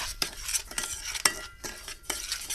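A spoon scrapes and clinks around a bowl in a steady stirring rhythm, mixing 10 spoons of caster sugar (one of them vanilla sugar) with 3 teaspoons of ground cinnamon for a cinnamon paste, with bright, gritty scratches of dry granules and a few sharper taps against the sides. No one speaks.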